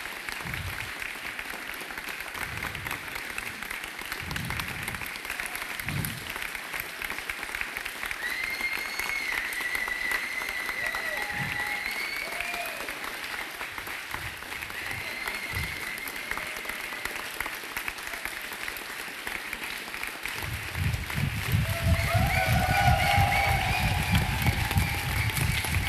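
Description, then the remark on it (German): Sustained audience applause with dense, crackling clapping throughout, swelling louder toward the end as a crowd cheers and whistles faintly in the background. “Das ist euer Applaus.”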